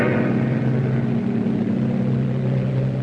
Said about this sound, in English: What is it? A plane. It's coming over us.